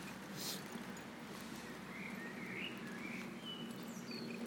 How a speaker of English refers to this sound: Lovely blackbirds. I miss them when they're gone for the summer. Or they stop singing.